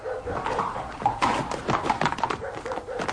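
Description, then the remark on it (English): Horse hooves clip-clop in an uneven, steady rhythm at moderate loudness as Grimthorpe rides off some distance on his horse, a string of sharp knocking strikes over a murky, humming background. “Some distance, or he wouldn't take the horse, my lord.”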